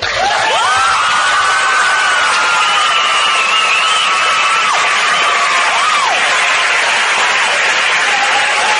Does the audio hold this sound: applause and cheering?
yes